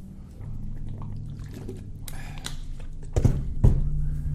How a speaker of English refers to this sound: Yeah, let me get some water here.